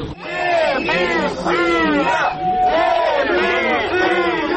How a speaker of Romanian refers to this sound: Contestatarii l-au huiduit și au cerut demisia lui Chirtoacă. 9 ani ai distrus orașul, impostorule! Demisia!